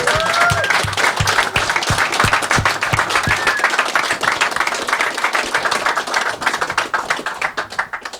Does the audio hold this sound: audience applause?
yes